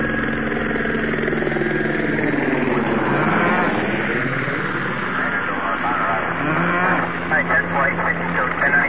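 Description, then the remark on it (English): Cows moo in long, drawn-out calls that overlap and slide in pitch, continuing for several seconds over a faint, steady background hiss. “Ever wonder what goes through a cow's mind, Sheriff?”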